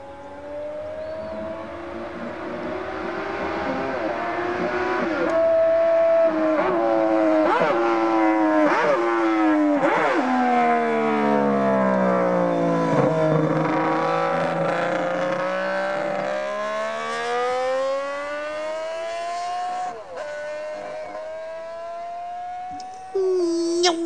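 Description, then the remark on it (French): The engine of the Honda 250 six-cylinder racing motorcycle with which McElwood won the Tourist Trophy, revving up to 21,600 rpm at Montlhéry during the Coupe Moto Légende; its shrill, bee-like buzzing whine climbs and dips through a series of throttle blips for about twenty seconds, loud and steady with no voices. “C'est la 250 Honda 6 cylindres avec laquelle McElwood a gagné le Tourist Trophée. Elle prend 21 600 tours.”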